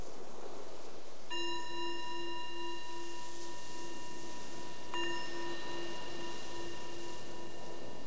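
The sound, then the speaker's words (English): A meditation bell is struck twice during a guided meditation, a few seconds apart, each strike blooming into a long, shimmering ring with a gently pulsing low tone that fades slowly against a quiet background. “So the bell is the invitation to let go of whatever you were doing before and just coming inward to check in to see how is it right now, right here in this mind and this body.”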